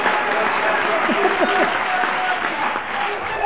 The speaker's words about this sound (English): And in conclusion, I must have given a hell of a talk. That was a round of applause I haven't had for a while. Thank you.